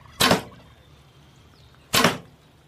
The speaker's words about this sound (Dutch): Twee pijlen.